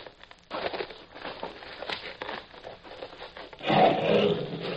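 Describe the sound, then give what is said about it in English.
A Nubian lion in a pit roars and growls in a deep, rumbling stretch that swells louder toward the end, with no one talking. “He is a Nubian lion.”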